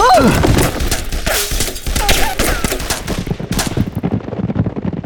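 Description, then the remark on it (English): Half a dozen Winchester rifles fire from outside a boarding house as the Sandlin gang attacks, a rapid, overlapping volley, sharp cracks piling into a steady barrage, with breaking glass and shouting voices mixed into the din. “From outside, half a dozen Winchesters cut loose.”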